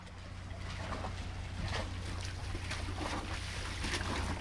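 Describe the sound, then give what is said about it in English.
Water laps and splashes gently against the hull of a boat that someone lives on, a steady soft wash with a low hum underneath and small irregular sloshes throughout, without any voices. “So, one morning, he invited me aboard.”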